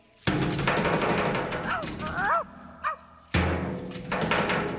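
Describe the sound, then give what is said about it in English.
A man's voice imitates a dog, letting out a few short, yelping barks in the middle of a loud, clattering, noisy backdrop that drops out briefly and then returns, in a 1970s underground hit song by a Houston street performer. “Well, bow wow.”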